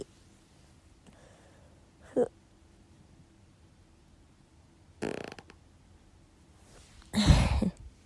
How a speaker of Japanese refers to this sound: あよー、おなら多分出るんで出します。